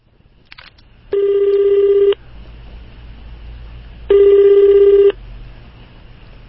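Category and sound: signal or alarm, telephone dialing and ringing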